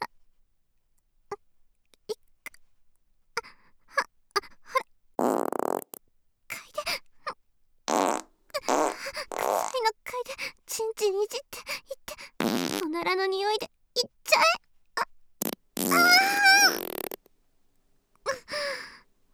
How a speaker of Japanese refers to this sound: 今からたくさんガス出ちゃうからね。覚悟してね。